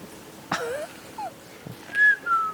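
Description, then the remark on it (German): A person whistles a few short, gliding notes to call guineafowl, ending with a brighter, louder pair of whistles, with no talking and a couple of soft knocks. “Und für Perlhörner? Tun wir pfeifen.”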